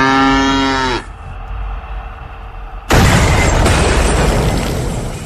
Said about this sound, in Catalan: Però quan tu sents un bou, una vaca, que va per un